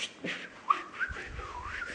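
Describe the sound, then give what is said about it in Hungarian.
A person gives a couple of short, sharp whistle blasts into the microphone, like a traffic police officer's signal at an intersection, over soft background noise. “Nem akarok fütyülni a mikrofonba. De tudok.”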